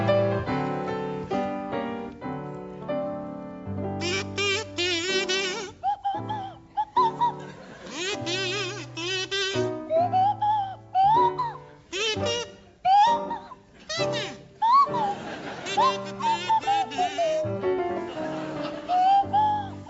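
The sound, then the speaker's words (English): Jack D on a buzzy kazoo and Tim Brooke Taylor on a sliding swanee whistle play a bouncy tune together, fairly loud, with short stabbing phrases and swooping pitch glides throughout. “to feature Jack D on the kazoo and Tim Brooke Taylor on the Swanee whistle.”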